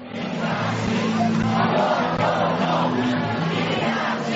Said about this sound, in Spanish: Son los gritos de los manifestantes a su paso por la sede del Partido Popular. Casi 1,5 millones de personas, según los organizadores,